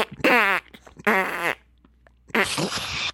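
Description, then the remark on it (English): Three loud raspberry sounds made with the mouth to imitate farts: two short buzzing blurts, then a longer, noisier, wetter one after a brief pause. “Then let's spend the next minute just doing farting noises.”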